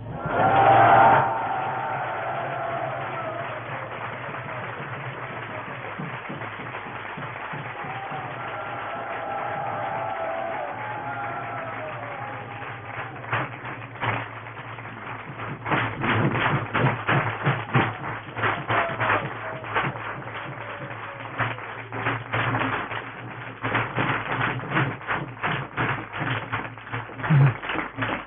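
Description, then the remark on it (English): Enthusiastic audience applause for young devotees, starting as scattered, uneven claps and building into dense, continuous clapping in the second half, with a few whoops early on and a low steady hum underneath. “That's a, we're very thankful that you put so much enthusiasm in your applause.”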